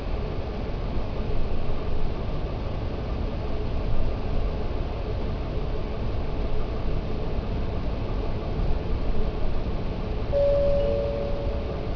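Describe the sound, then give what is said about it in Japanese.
A steady, dense rumble of an Aizu Railway train bound for Shinagawa Onsen, heard from inside the carriage, with constant low-frequency drone and rattling throughout, and a brief higher tone near the end. “本日は会津鉄道をご利用いただきましてありがとうございます。この列車は品川温泉行きの”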